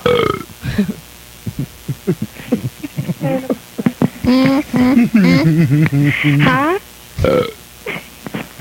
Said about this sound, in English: They like the burps.